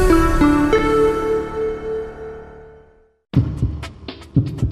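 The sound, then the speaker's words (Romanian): A ringing musical chord slowly fades into a brief silence, then a heartbeat pulse effect begins: deep thumps in a steady double-beat rhythm, with no talking. “Îl auzi? E pulsul zilei.”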